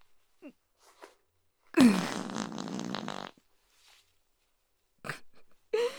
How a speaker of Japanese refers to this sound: ごめんなさい、私がブーブーおならこいちゃったせいですよね。